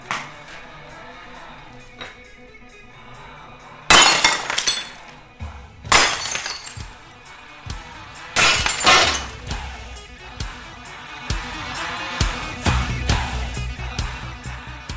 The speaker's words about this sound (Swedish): Nej, nu börjar det bli dags att slå sönder något mer tycker jag. Jag tänkte ta en kofot här och så går jag loss på lite flaskor